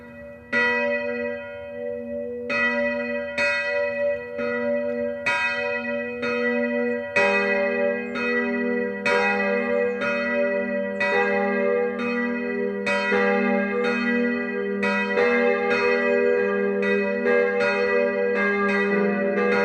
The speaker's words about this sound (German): Es ist 12 Uhr. Das Mittagsläuten kommt heute von der katholischen Pfarrkirche St. Sebastian im oberpfälzischen Falkenstein.